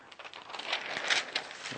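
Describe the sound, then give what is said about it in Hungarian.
Soft rustling and crinkling of paper pages being turned, a few quick flicks running together over a couple of seconds, with no voices. “lapozunk.”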